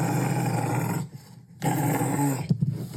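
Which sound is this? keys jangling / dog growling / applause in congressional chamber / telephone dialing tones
dog growling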